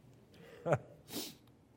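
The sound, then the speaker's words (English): A single sneeze: a short voiced intake bursts into a sharp, hissing expulsion of air, fairly loud, with no talking. “That's what you can hear, I'm sneezing.”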